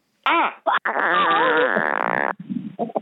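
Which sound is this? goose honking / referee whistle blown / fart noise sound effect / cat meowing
fart noise sound effect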